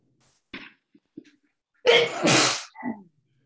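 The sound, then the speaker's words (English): A loud, explosive sneeze from a person on an online call who thought they were muted, preceded by a few quick sharp inhales and followed by a brief trailing breath. No talking. “Wouldn't have sneezed so loudly.”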